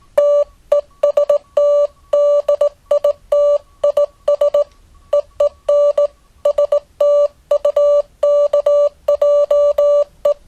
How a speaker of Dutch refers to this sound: Nou, op verzoek een stukje morsen via D-Star, om te laten horen hoe D-Star een sinustoontje vervormt. Hè? Even voor de goede orde, dit is het pieptoontje waarmee ik dat doe.